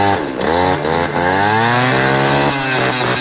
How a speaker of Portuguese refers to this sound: Tô andando de jet ski, escuta o barulho aí, ó.